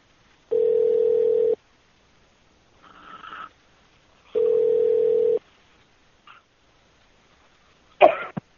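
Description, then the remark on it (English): A phone line after the called party hangs up: two long, steady low-pitched tones about a second each with a pause between, plus a few short noisy bursts like coughs in the gaps. “Yeah, they're just hanging up over there now.”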